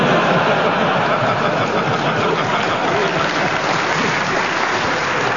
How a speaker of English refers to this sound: Audience, you can clap if you like. If they're getting warm. Or if you're getting cold.